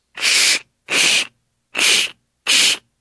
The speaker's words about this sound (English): Cardboard being cut with scissors.